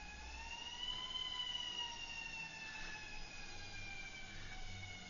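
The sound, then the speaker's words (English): A siren wails steadily outside, its sustained tones gliding slowly up and down with a faint drift as it passes, heard over low background rumble with no one speaking. “I'll leave you with a story, once the siren stops”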